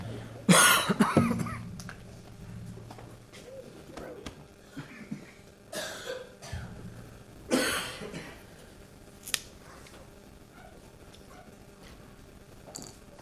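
Scattered coughs break out across an audience, several different people coughing at irregular moments, some sharp, others fainter, with a low hum and quiet shuffling between them.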